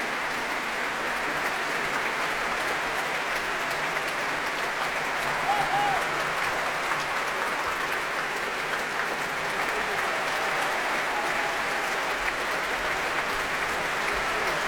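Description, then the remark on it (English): Sustained concert audience applause at the Proms in the Royal Albert Hall for the leader, Wei Lu, and section leaders of the German Symphony Orchestra of Berlin, a dense, steady wash of many hands clapping at an even loudness, with no pauses and only faint hints of voices beneath it. “Well, applause now for the leader of this orchestra, Wei Lu, and for other section leaders going on now.”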